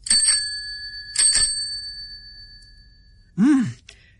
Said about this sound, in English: It's a nice new shopping basket on wheels. Look, it's got a bell to let people know I'm there.